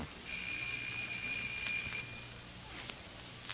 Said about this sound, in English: No answer. Why don't you try the bell?